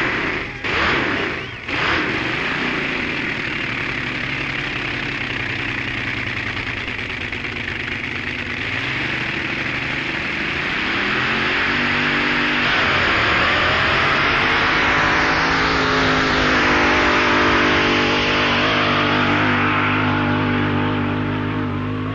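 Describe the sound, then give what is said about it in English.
Tony's radical wedge-design drag racing car at the 1964 Drag Festival roars loudly and steadily, its pitch climbing as it revs and accelerates on a run clocked at 8.98 seconds and 176 miles per hour. There is no speech. “And when he got his revolutionary car really going in this run, there is no doubt as to the effectiveness of the radical design, as the clocks record 8.98 seconds and 176 miles per hour.”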